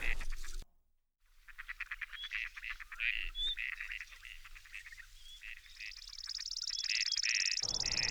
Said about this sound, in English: A song. Oh, wait, it's a chipping sparrow. Okay, well, this is maybe our first sign of a mild fall. It's November, and chipping sparrows are just summer birds, but they do linger well into the fall. But this is a very late chipping sparrow